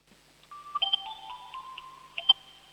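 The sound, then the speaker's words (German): A 7-year-old's electronic doorbell at home in Upper Austria, Austria, shown to a radio show, plays a melodic chime of steady, mid-pitched tones that glide between notes, with a few brighter accents near the start and end. No one speaks. “Das ist ja eine coole Türklingel.”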